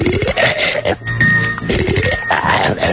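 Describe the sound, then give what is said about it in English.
Loud, rough snoring and gagging of a sleeper with sleep apnea, choking while asleep: a continuous run of throaty, grunting snorts with gurgling rattles of mucosa and adenoids and a brief choked pause in the middle, with no talking. “It's very nasty for me under the bed here, listening to you snoring and gagging and mucosa gurgling and your adenoids rattling and...”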